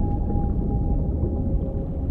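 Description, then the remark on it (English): A long, steady whale call from a pod of a dozen whales swimming overhead in the ocean holds a single drawn-out tone over a deep, rumbling underwater wash, loud, with no voices. “As I stood at the bottom of the ocean, I watched them swim above me. It was a pod of a dozen whales.”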